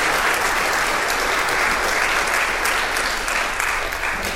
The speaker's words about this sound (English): Let's give a round of applause of gratitude to these guys. Thank you very much for sharing.